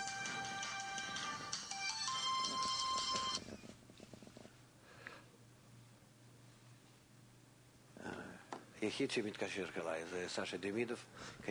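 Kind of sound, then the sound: signal or alarm, mobile phone ringtone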